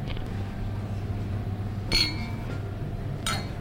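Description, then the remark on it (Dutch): Two bright glass clinks ring out about a second apart over a low, steady room hum, like glasses touched together in a toast. “Oh, proost op jullie.”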